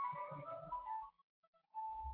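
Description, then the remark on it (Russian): Someone's mobile phone rings during a talk, playing a bright, steady electronic melody, then breaks off into a short pause with a few faint blips and starts up again. “Выйдите, у кого звонит.”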